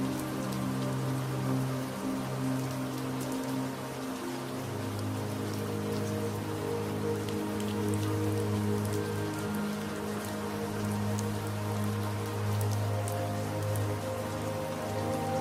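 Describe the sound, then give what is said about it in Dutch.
Gentle, steady rain patters on leaves and the thatched roof of a wooden cottage in the mountains, a continuous soft hiss dotted with faint drip ticks, while a low sustained drone hums underneath throughout. “En je hoort het geluid van de regen die zachtjes op de bladeren en het dak van het huisje valt.”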